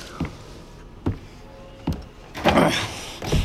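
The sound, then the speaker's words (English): Car door locks engage with three sharp, evenly spaced mechanical clunks, then a louder, longer rattling clack and one more thump, with no voices. “What is going on here? You locked the door on me.”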